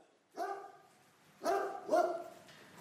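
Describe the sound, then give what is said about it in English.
Police dogs barking in the kennel area at a rural crime police headquarters on the outskirts of Lincoln, Lincolnshire, three loud barks in quick succession with a brief gap after the first. No one speaks. “I'm in the kennel area at the Rural Crime HQ on the outskirts of Lincoln, and some of the police dogs here will have played a part in tackling hare coursing in the county as part of Operation Galileo.”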